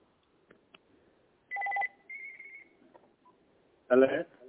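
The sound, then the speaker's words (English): A telephone, being called to test that its number works, gives two short, clear electronic tones, one after another. A brief burst of a person's voice follows. “The phone is ringing?”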